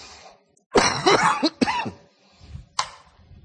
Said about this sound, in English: I was coughing less earlier today.